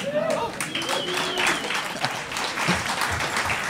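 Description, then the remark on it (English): Audience applause led by people from Nova Scotia fills the moment, steady dense clapping from a crowd with a few cheering voices and whistles mixed in, holding at a fairly loud level throughout. “I believe that was all Nova Scotia leading the applause there.”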